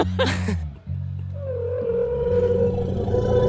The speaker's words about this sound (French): On passe au diplodocus. Vous allez voir, il y a plus de texture.